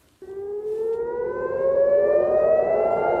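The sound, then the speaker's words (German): A loud air raid siren starts abruptly and wails steadily, its tone slowly rising in pitch as it swells, with no voices present, sounding in the morning in Tel Aviv, Israel. “Die Bewohner Tel Avivs wachen mit Sirenengeheul auf, am Himmel weiße Streifen.”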